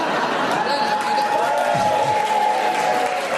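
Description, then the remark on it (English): A studio audience claps steadily throughout, a dense, even wash of applause that never lets up, with faint murmuring voices mixed in beneath it. “I'm challenging the audience because they keep clapping and that's repetition.”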